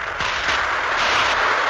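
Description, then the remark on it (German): A storm of applause for Thomas Mann fills a ceremony hall at the presentation of the prize from Stockholm, before the Swedish king: dense, steady clapping from a large crowd that roars continuously without a break or any voices standing out. “Ein Sturm für Thomas Mann.”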